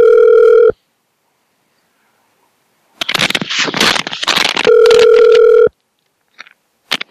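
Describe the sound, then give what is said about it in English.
Two steady electronic ringback tones of an outgoing phone call to a ward in London, heard loud through the line, separated by silence and a burst of rustling, scraping handling noise. No one speaks. “We've been calling these damn wards in London, and they're all a bunch of lazy sods. They don't answer the damn phone.”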